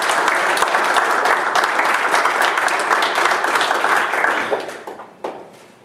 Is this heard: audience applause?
yes